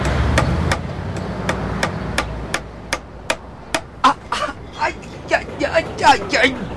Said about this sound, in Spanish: Que este martillo es un jodido, no ve cómo me dejó el dedo.